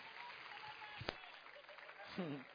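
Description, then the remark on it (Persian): An audience claps steadily throughout to applaud two people's reports, a dense, even patter of many hands at moderate loudness, with a brief sharp thump near the middle and a voice rising over the clapping toward the end. “من گزارش هر دو تا دوستمون رو تشویق کنیم.”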